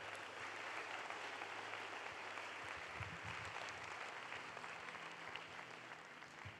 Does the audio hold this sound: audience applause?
yes